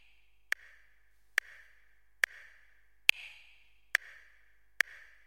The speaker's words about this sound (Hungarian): Amit hallunk, egy átlagos felnőtt emberi szív dobbanási mértéke, 70-es tempó, ez azt jelenti, hogy percenként 70-et koppan a taktus.